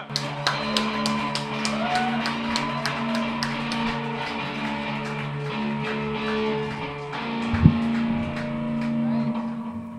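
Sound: audience applause and cheering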